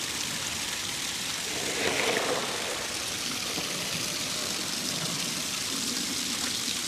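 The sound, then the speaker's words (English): A steady rush of water flowing from a small opened valve, used to water animals, hisses continuously, briefly swelling a little louder near the start before settling into an even, unbroken gush with no voices. “Just open up that little valve.”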